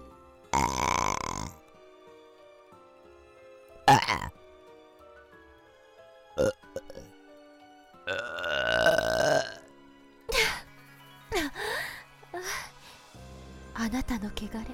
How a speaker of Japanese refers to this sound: 巫女の口から呼気を浴びせるという。 え、 どうです。え、ゲップじゃないかと。どうでしょうか。